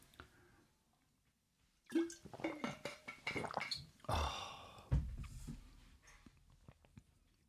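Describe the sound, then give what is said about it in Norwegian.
After a moment of near silence, someone takes a sip of water: wet slurping and swallowing mixed with clicks and rustles of a bottle being handled, with no talking. “Jeg må ta med en slurk vann.”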